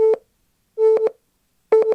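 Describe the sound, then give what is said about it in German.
Three short electronic tones at one steady mid pitch, separated by brief pauses, each ending in sharp clicks; the last burst has a quick run of three clicks. The tones come from a memory-style game in which cards are clicked one after another to find matching tones. No one speaks. “Man versucht, die gleichen Töne zu finden.”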